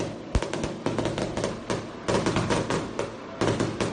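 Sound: firecrackers going off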